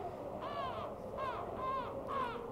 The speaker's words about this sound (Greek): Κοράκια! Και λοιπόν? Μη μου πεις πως δεν ξέρεις. Όταν κράζουν οι κοράκια τη νύχτα, είναι θάνατος.